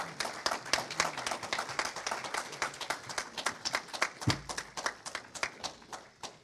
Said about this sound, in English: So let's give them a round of applause, all right?